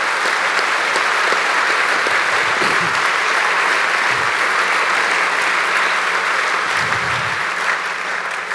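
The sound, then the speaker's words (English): Sustained audience applause for the event's organising team, with dense, steady clapping that stays loud and even throughout, a few faint low murmurs or whoops surfacing beneath it. “So in the end, give the team who's not here on the stage a really big applause, because they really, really worked hard to get that done.”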